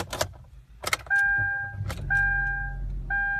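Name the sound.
car engine starting up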